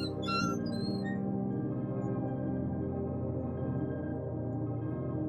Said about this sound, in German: Nur die Schilder aus Metall, die vom Wind gedreht werden, quietschen leise vor sich hin.